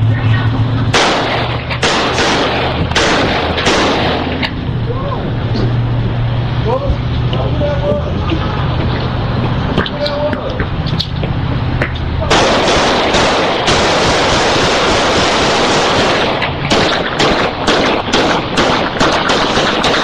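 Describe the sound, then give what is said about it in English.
Repeated bursts of gunfire in Memphis, Tennessee crack out over a constant, noisy roar, some shots in rapid strings like automatic fire, loud, with a low engine-like rumble underneath in the first half. “I mean, we heard the audio of the gunfire.”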